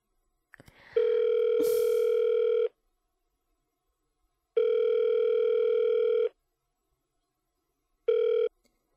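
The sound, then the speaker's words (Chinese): Phone ringback tone of an outgoing call to the caller's husband: steady buzzing beeps about two seconds long, separated by pauses, heard alone and fairly loud after a brief click at the start. “哎呀，还要给我老公打电话。”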